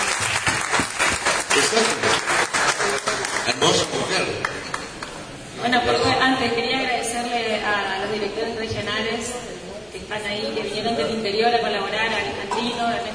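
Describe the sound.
An audience bursts into loud, dense applause, a steady crackle of many hands clapping for several seconds, then it fades as a voice begins talking over the last scattered claps.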